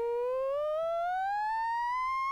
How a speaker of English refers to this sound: But this is a sine wave. So it's sort of very vanilla.